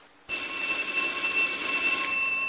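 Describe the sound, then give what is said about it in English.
A telephone rings loudly and continuously, its bright metallic bell cutting in abruptly after a brief moment of near silence and sustaining without a break. No one speaks. “Mortimer raises a hand, urging them to stay put, then hurries to the phone.”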